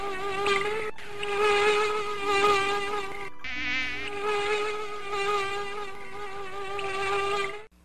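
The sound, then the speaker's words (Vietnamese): A dense swarm of mosquitoes whines continuously close to the ear inside a tent at night, many overlapping high-pitched buzzes wavering in pitch, steady and fairly loud for the whole stretch with no voices. “Đó là sự tạm thời khác biệt giữa một đêm yên tĩnh, nghỉ ngơi và một đêm phải chịu vô số những chúng sanh nho nhỏ, điên cuồng, hung hăng, vo ve vang rền bên tai và hè nhau đâm chích vào mạch máu chúng tôi.”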